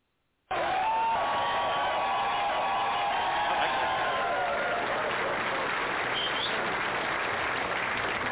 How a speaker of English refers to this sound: Yeah, even our studio audience got an applause out of that one.